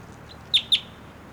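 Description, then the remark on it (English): A wild bird perched on a support rope for a net gives two quick, high-pitched chirps in succession, fairly loud over a faint background hiss, with no talking. “Just collected that bird.”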